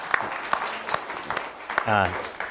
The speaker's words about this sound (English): And thank you for all your service in so many ways. So he's the one who really deserves a round of applause.